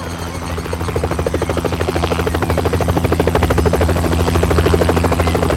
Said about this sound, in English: The wind picked up as a black and scarlet helicopter came in to land on the meadow next to the school's gate.